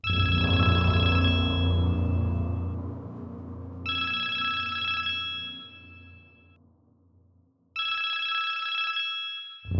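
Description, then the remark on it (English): A telephone on a police precinct line rings loudly in three long electronic bursts separated by short pauses, with a low rumble underneath the first ring. “Brady walks over to the phone. He looks at the small, white blinking light and thinks of the madness waiting for him on the other end.”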